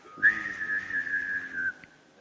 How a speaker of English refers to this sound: That's the way we whistle in Chickasha. I grew up in Chickasha. I learned how to whistle like that over there. It's two tones at once. Now I can't do it.